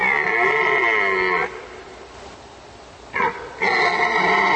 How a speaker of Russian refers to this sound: Это олень. Так самцы отпугивают соперников в брачный сезон. В Ричмонд парке живет около 300 оленей-моралов и еще больше ланей.